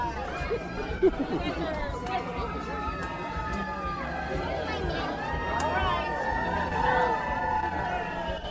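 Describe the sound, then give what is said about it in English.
A dense, loud hubbub of many overlapping voices from a crowd at Walt Disney World fills the whole stretch, steady crowd chatter with occasional shouts rising above the babble. “And we thought we were the loud crowd. That's not us.”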